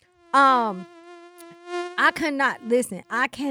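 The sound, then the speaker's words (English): A voice imitates a mosquito with a steady, nasal buzzing whine held for over a second, followed by several shorter, choppy buzzing bursts. “You don't even pay attention how badly you've been bitten by the mosquitoes until it's time to go to bed and you itching like you got the daggone chicken pox.”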